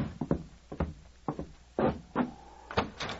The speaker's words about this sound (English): The following day, Sergeant Preston answered a loud knock at his door.